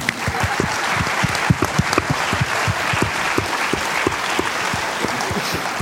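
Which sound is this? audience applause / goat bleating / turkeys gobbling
audience applause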